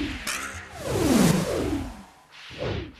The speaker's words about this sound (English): Right, draw the string, sink the arrow. Hurry up, Sarge. Right, just picking me spot. Lucky arrow, sink. Fire the bloody thing! Take aim.